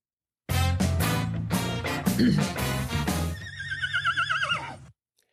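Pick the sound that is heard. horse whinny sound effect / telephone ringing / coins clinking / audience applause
horse whinny sound effect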